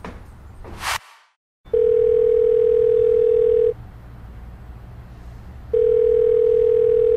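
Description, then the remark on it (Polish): An electronic telephone ring: a steady, mid-pitched tone sounds for about two seconds, pauses for two, then starts again, loud over a low background hum after a brief burst of noise. “Nie odbierzesz? Nie. No, nie krępuj się. Odbierz.”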